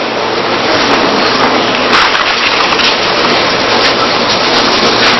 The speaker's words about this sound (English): So the storm came. The storm, Mark uses the term, it was a squall.